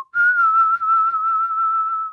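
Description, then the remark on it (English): A person whistles a single steady, fairly high tone for about two seconds. It imitates air vibrating in the gap between the layers of a kettle lid, the first of the two ways a kettle whistles. The pitch barely wavers and there is no talking. “It starts off with air vibrating in the gap between the layers of the lid, like when you do this, and this.”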